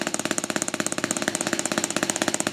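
A fast, even drum roll played as a warm-up, with about a dozen crisp strokes per second in a steady, almost mechanical rhythm. It stays at a constant moderate volume, with no voices.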